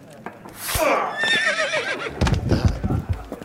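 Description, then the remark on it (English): A loud horse whinny from the horse Usador rises and quavers for about two seconds, followed by low rumbling snorts and shuffling noises. “You're clearly an evil horse.”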